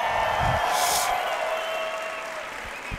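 An audience at the Talentland event applauds steadily for about three seconds to welcome the guest Jordi, a dense wash of clapping that stays loud and then eases off slightly toward the end, with no talking over it.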